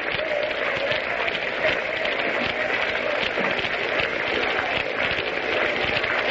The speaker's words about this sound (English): Crowd is beginning a sort of a half-hearted hand clapping.